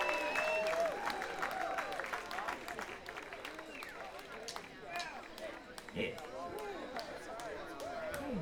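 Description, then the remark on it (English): Festival audience applause for all the bands that played that day fills the whole stretch: dense, steady clapping with crowd voices, cheers and a few whistles rising through it, gradually easing in intensity toward the end. “Let's give a big round of applause for all the bands that played today.”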